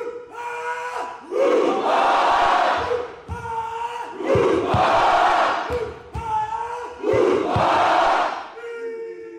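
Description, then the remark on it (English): A crowd of family, friends and spectators at youth games cheers and yells in three loud, rhythmic surges a few seconds apart, each one a swelling chant-like roar that briefly dips before the next. “Not only did he compete, but he was also in charge of getting the crowd of family, friends, and spectators excited.”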